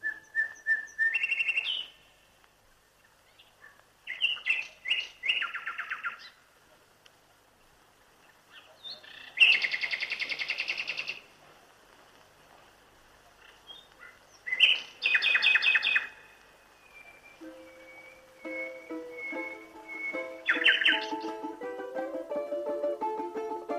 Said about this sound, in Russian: Уже сквозь призывный щебет пернатых властно доносится щелканье соловья.